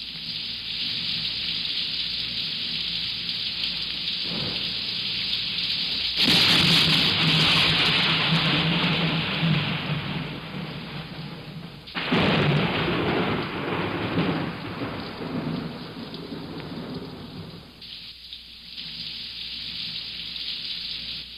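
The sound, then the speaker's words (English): Steady, hissing rainfall fills the scene, broken by two heavy rumbles of thunder that swell loudly and roll on for several seconds each before fading back into the downpour. “And then there's rain.”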